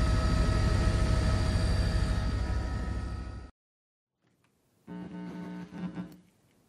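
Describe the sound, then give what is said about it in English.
Loud, steady helicopter engine and rotor drone over the city of Tacloban fills the first few seconds, cuts off abruptly into silence, then returns softer with a humming whine. “This is what I saw from the helicopter.”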